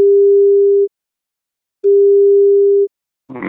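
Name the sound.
telephone ringback tone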